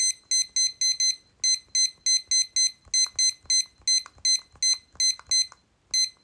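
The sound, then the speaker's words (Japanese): A digital timer beeps rapidly and shrilly as it is set to 20 minutes, sounding in steady quick bursts for several seconds, fairly loud, with faint handling thumps underneath and no talking. “はい、じゃあタイマー持ってきてるのでタイマーを20分にセットします。”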